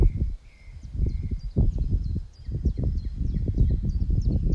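Gusty wind rumbles and buffets in uneven low surges, rising and falling throughout, while faint high bird chirps repeat in the background.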